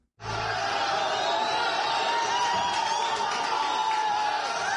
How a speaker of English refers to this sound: The decision Monday by a Cairo misdemeanor court to acquit 26 men accused of debauchery was met with applause inside the courtroom as onlookers cheered and the defendants chanted.